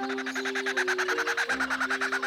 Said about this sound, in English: Let's listen to another. This is a kookaburra.